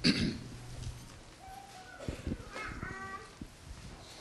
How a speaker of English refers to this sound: I've been coughing a little bit for the last couple of days, so I'm going to use this microphone right here to keep from busting y'all's eardrums whenever I do cough.